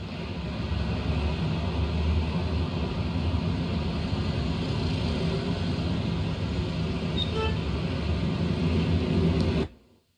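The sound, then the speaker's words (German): Busy street traffic at an ordinary intersection in Indonesia, filmed on a phone: a steady, dense roar of engines and tyres, loud, running continuously for about nine seconds before cutting off abruptly. “Eine ganz normale Kreuzung, aber ich werde den Anblick nie mehr vergessen. Und ich habe es gefilmt für euch.”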